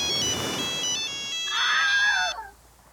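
phone ringtone ringing

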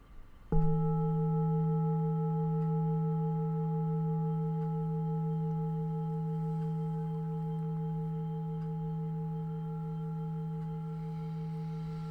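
meditation bell ringing

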